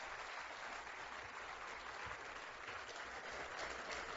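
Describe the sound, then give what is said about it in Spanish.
An audience applauds a public road works project, a dense, even wash of many hands clapping at constant loudness throughout, with no voices standing out. “Merece este aplauso poder comprender la dimensión de esta obra, que bien fortalece el sistema vial metropolitano y también nacional, pero además de esto es el impacto en el desarrollo de todo el país.”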